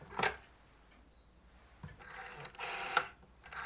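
A black rotary telephone being dialed by a mother in the morning: mechanical clicks and a short whirring, ratcheting sweep as the dial spins back, quiet, with no voices.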